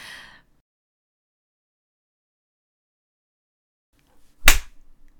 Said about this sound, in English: That's like a knee slapper. I need to learn how to slap properly.